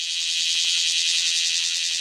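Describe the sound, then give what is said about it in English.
A male cicada buzzes in one loud, steady, high-pitched drone that holds unbroken for about two seconds, with a faint rapid pulsing running through it and no voices. “Once they hatch, they climb onto the nearest perch and sing as loud as they possibly can.”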